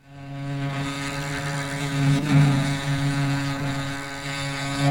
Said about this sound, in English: Bumblebees buzz. I just found out. At a very specific frequency to shake the pollen off the flower. It's the vibration does the trick.